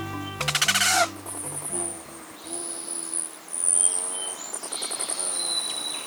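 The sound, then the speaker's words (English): A hummingbird's wings buzz in a low, steady hum as it flies by, fading after a couple of seconds, while thin high chirps and squeaky chips continue throughout. “Rufous hummingbirds, ruby throats, and others are migrating north after a hot, dry winter in sunny Mexico or Central America.”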